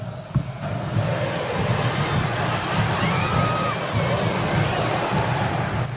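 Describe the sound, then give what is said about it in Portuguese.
A large crowd of colorada supporters roars and cheers at the Beira-Rio stadium while their team leads 2-0, a dense, sustained wash of voices with rising shouts and whistles, loud and steady throughout. “E a torcida colorada está desse jeito no Beira Rio.”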